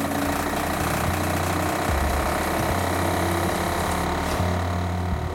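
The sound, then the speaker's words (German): The water pump of a sewer-inspection vehicle in Berlin-Reinickendorf runs with a steady, loud mechanical drone, its water pressure driving a snake-like wheeled robot through the sewer pipes; a low throbbing hum broken by a faint rattling chatter that stays constant throughout. “Marco stellt die Wasserpumpe des Wagens an.”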